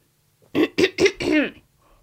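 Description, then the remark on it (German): A man clears his throat in a quick series of four harsh, voiced bursts, the last one drawn out longer, with silence around them. “Man muss sich auch manchmal räuspern.”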